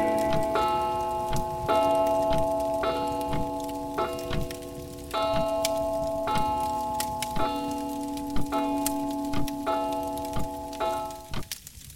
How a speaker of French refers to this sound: La pendule annonce les 23 heures.